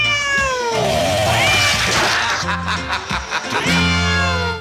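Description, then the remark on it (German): Several loud cat meows, used as sound effects, follow one another in quick succession, with drawn-out, sliding harmonic wails and a few short, choppy calls in between, and no talking. “Hier noch ein Miau, hier noch eins, hier noch eins.”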